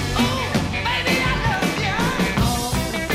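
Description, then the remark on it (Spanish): A singer belts out a shouted, strained vocal over a full band recording, compressed with a compressor so it holds an even, steady loudness with no sudden peaks despite the intensity of the yelling. “Pero no nos ha atronado. No, es verdad. Porque le han puesto un compresor.”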